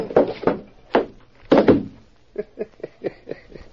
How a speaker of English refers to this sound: Did you see me nail him on the chin? Sure, clipped him square.